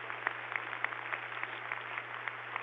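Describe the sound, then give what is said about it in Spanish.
Steady applause from a crowd for General Guatibonza, dense clapping spread across the whole clip with small sharp peaks, over a low constant hum. “General Guatibonza, lo aplaudimos desde el corazón.”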